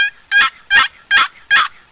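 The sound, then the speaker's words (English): A paddle-type turkey call produces a series of five sharp, evenly spaced clucks, loud, each a short raspy note with brief pauses between, and no talking. “Now cluck.”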